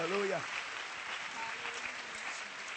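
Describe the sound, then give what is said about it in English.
A crowd claps and applauds steadily to the Lord in praise, a dense wash of hands, while a voice calls out briefly at the start and faint cheers rise through it. “If you're ready to do that, clap your hands to the Lord and give him praise.”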